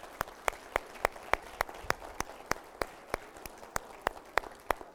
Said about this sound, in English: So thank you so much for raising your children, and particularly those of us, I'm putting my name in the mother pool, for those of you who have raised your children to fear and honor God, you really deserve our hand clap.